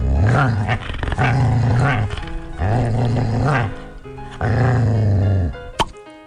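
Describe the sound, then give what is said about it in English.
A playful puppy growls in four long, rumbling bursts with brief pauses between them, loud, followed by a quick sharp click at the end. “Let me grab the Sound Hound from our playful puppy.”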